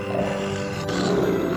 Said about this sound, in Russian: Лев.